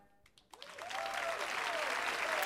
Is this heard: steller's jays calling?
no